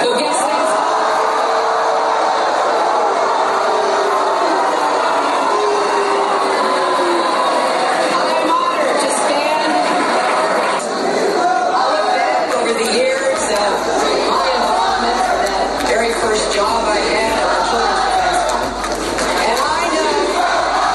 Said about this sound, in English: That's Bernie Sanders' headquarters. She was on the big screen and they booed her.